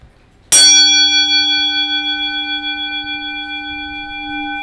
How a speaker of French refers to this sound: qu'on appelle les comptoises, c'est des cloches qui font donc 1 cm. Elles sont grosses, elles ont un son plus grave. Voyons. Voilà, la plus grosse que j'ai, voilà, c'est celle-là, c'est une bête.